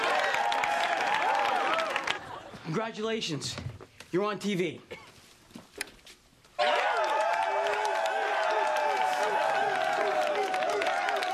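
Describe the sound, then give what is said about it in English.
A large crowd at a Student Union cheers and claps loudly, drops away while a voice speaks briefly, then the roar of cheering and applause bursts back in and continues to the end. “It's a big crowd watching you at the Student Union.”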